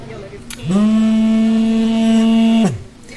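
A drone detector alert at an aid distribution centre in Kherson sounds one loud, sustained electronic tone for about two seconds, warning of at least four drones overhead. It swoops up in pitch at the start and drops away at the end, with no one talking.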